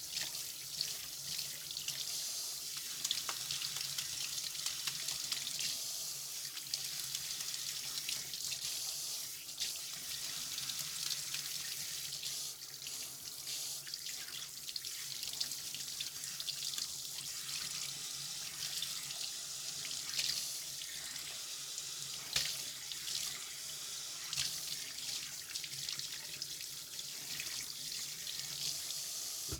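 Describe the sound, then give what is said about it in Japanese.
Tap water runs steadily for the whole stretch, a continuous bright hiss of spray with faint splashes and no voices over it. “熱くない？よかった。”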